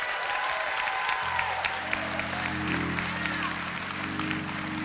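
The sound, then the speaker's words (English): A church audience claps loudly and steadily in praise to the Lord for the whole stretch, a dense wash of hand claps, while low sustained organ chords come in underneath partway through. “Now give the Lord the biggest hand clap of praise in the next 30 seconds.”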